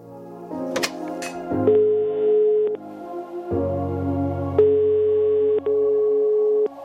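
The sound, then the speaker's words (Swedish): A steady electronic telephone ringing tone sounds in long, even bursts while a call to a music producer connects, with a low background hum and a few soft clicks; no one speaks. “Jag ringer upp musikproducenten Killigrew för att få veta lite mer om en genre som kallas för chillstep.”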